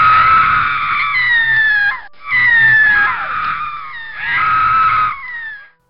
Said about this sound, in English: one night I was awoken by a soft moaning sound. My sister was already awake, so together we listened to the sound. The shrieks of a lady seemed to be coming from the kitchen and getting louder and closer to our room.